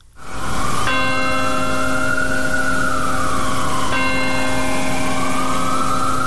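church bell ringing

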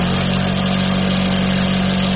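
sewing machines running

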